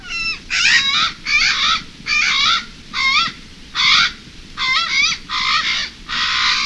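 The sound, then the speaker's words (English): A series of about nine harsh, drawn-out Hawaiian crow (Alala) calls, loud, repeating in a steady rhythm with brief pauses between them, over a low rumbling background. “While a previous attempt to return Alala to the wild came up short, we await the day when conditions are right to bring the sacred raven back to its forest.”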